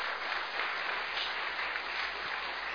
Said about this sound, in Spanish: Gloria a Dios, vale la pena que le dé un aplauso al Señor.